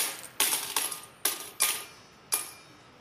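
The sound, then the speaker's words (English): Coins are dropped into a brass box by people arriving to celebrate Passover, in five bright, jangling bursts, each ringing briefly before fading, spaced unevenly, with no voices. “So all you're hearing is the conversations of hundreds of thousands of people making their way in, dropping coins into a brass box.”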